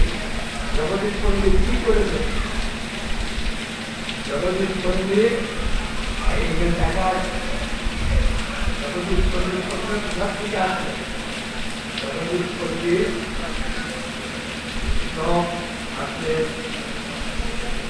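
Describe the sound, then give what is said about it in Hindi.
Heavy rain pours down in a steady, dense hiss that never lets up during a religious discourse (katha) held at the feet of Jagannath, while a man's voice talks intermittently over it and a faint low hum runs underneath. “बरसात के छोटे छोटे जो उड़ने वाले कीड़े चारों तरफ फैल रहे हैं, लाइट पे आ रहे हैं, डिस्टर्ब कर रहे हैं, बहुत जोर के बारिश हो रही है, और इस बीच जगन्नाथ जी के चरणों में बैठ के हम गुरु महाराज से कथा सुन रहे हैं।”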